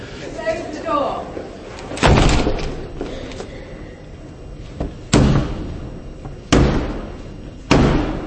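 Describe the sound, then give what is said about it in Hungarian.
The royal official Black Rod strikes his staff four times on the door of the House of Commons chamber in the Westminster Parliament, traditionally slammed shut before him, to request entry: loud resonant booms spaced a second or more apart, with faint murmuring voices and echo between the blows. “Az alsóházi tárgyalóterem ajtaján hagyományosan a Black Rodnak, fekete pálcának nevezett királyi szolga koppantott botjával és kért bebocsáttatást, miután hagyományosan becsapták előtte az ajtót, pontosan úgy, ahogy már évszázadok óta teszik.”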